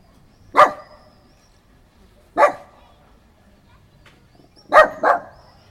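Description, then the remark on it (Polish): A dog named Lucy barks menacingly: three sharp, loud barks spaced a couple of seconds apart, the last one quickly doubled, with quiet pauses between them. “To jest właśnie groźny szczek Lucy.”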